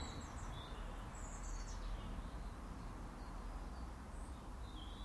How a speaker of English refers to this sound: It's a lovely morning. Bird song, fresh air.